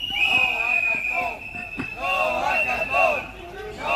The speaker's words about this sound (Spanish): Que protestan con este grito de no al cantón contra la decisión del Ayuntamiento de Madrid de construir allí un cantón de basura.